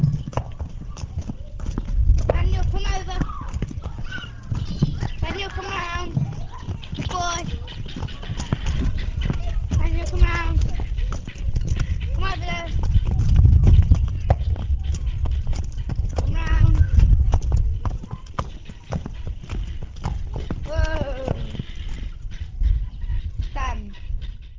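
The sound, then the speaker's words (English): A heavy shire horse named Daniel's hooves clip-clop at a steady walking pace across hard farmyard ground at Umberslade Farm as he is driven through a set of traffic cones laid out in the farmyard, while people talk over the rhythmic footfalls. “but firm, and here he certainly demonstrates that he is the horse's master as he drives Daniel through a set of traffic cones which have been laid out in the farmyard.”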